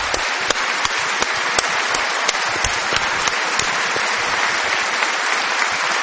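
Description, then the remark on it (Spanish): Sustained applause from an audience, an opening ovation, dense and steady clapping filling the whole stretch with a few sharper claps standing out, fairly loud, with no speech over it. “vamos a saludar, aprovechando el envión de la ovación inicial, al querido Patricio Barton”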